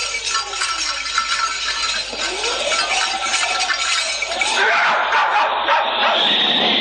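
A dog barks and yelps repeatedly against a dense, steady wash of background noise. The barking stays continuous throughout, with no one speaking.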